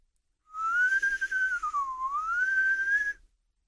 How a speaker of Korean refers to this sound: 자, 아빠가 요술을 알려줄게. 날씨가 좋을 때 아빠가 나무 밑에서 휘파람을 불면 바람이 분단다.